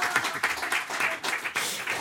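A crowd applauds with dense, steady clapping that fills the whole moment, many hands overlapping into a bright wash of sound with small surges in intensity.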